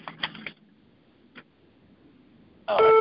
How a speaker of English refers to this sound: Oh, what's honking? Oh, my phone's beeping.